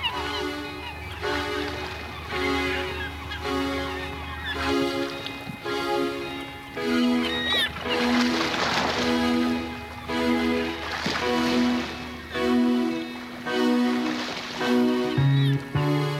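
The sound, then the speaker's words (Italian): Seagulls cry out in a song by a group from Vercelli, Italy, over a steady, sustained musical backdrop with a low droning bass, their calls rising in bursts near the middle and again toward the end. “I gabbiani ci sono anche qua.”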